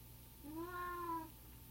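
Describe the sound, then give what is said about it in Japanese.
A single drawn-out cat meow, rising and then falling in pitch, lasting under a second over a faint, steady low hum, otherwise quiet. “猫が愛の手を入れることに気づく。”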